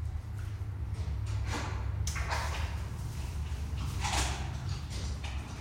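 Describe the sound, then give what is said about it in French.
A sliding airlock door to a carnivore keeping area, used only by authorised keepers, whooshes open and shut with a few soft mechanical swishes over a steady low machinery hum, with no voices. “Au-delà de la porte du sas, seuls les soigneurs habilités peuvent réaliser les manœuvres.”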